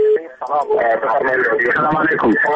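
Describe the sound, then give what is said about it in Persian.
A caller's radio plays loudly over a phone line during a call-in show on Radio Azadi, a broadcast voice with harmonic speech bands running continuously for a couple of seconds, slightly tinny and compressed. “شنونده محترم اگر صدای رادیوی تان خاموش بسازین بعدا صحبت کنین.”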